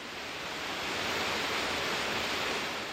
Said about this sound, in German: Das unheimliche Rauschen des wilden Bergwassers, der spärlich von oben eindringende Lichtschimmer, alles vereinte sich, die Sinne zu betäuben.